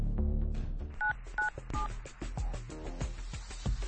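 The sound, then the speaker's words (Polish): A quick series of telephone keypad dialing tones, several short beeps in an uneven rhythm, heard clear over a low background hum with no talking. “W efekcie pani Stefania wcale nie wykręciła numeru na policję, a wciąż prowadziła tą samą rozmowę z oszustami.”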